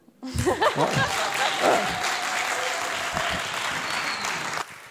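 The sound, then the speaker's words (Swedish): A crowd bursts into sustained applause, dense clapping holding steady for several seconds, with brief whoops and laughter mixed in near the start before it cuts off. “Och ni kommer nu att få en underbar applåd.”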